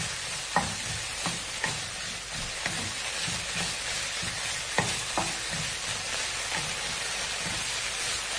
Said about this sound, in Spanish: ponemos una olla al fuego con un chorrito de aceite. La sofreímos a fuego lento y lo removemos de vez en cuando para que no se nos pegue.